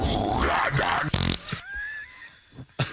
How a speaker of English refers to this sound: What was the, there's a fart at the end? I don't know where the fart came from, but I love it.